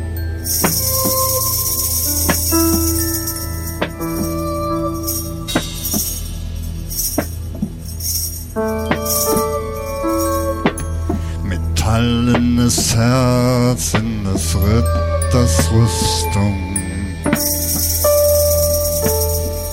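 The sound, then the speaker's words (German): Jingle bells shake and jingle steadily throughout, bright, mixed with melodic tones that waver like whistling partway through. No one speaks. “Der pfeifende Mann trifft auf den Schellenmann.”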